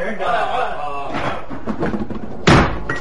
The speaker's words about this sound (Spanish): Afuera, los policías cargaban sobre la gran puerta de acceso a la casa. ¡Vamos! ¡Derríbenla de una vez! ¡Vamos, deprisa!